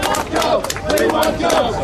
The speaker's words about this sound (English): That's the sounds from a pro-mine rally near the central Queensland city of Rockhampton today. The local mayor, …, addressed the crowd of around 100 to 150 people.